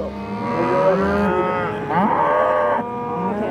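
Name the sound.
angus cattle mooing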